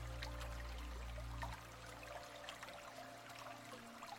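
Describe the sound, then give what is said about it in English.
A gentle brook babbles softly in the distance, a steady trickle of water with small splashes, heard alone under a low hum that fades early on. “And as you continue to nestle in your sleeping space, using the power of your imagination, visualize yourself in a tranquil garden, surrounded by cherry blossoms, with the gentle sound of a babbling brook in the distance.”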